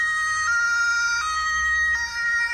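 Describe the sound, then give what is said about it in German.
An ambulance siren blares in a steady two-tone pattern, switching pitch every second or so, loud, with a low engine rumble underneath and no voices, as paramedics drive the ambulance away carrying a patient to hospital. “Die Sanitäter helfen ihr auf die Beine, bringen sie zum Rettungswagen und fahren mit ihr davon.”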